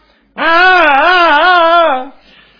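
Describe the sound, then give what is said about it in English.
A voice mimics a newborn baby crying with one long, wavering wail, loud, lasting under two seconds before it trails off into quiet. “Unlike newborn infants, we have a few newborn infants around here sometime, what sort of noises do they make?”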